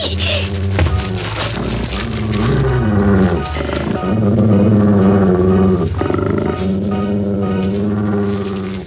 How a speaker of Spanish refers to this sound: El proyectil hace blanco contra el lobo. La fiera gruñe rabiosa al sentir el impacto en su cuerpo. Gira buscando a su agresor.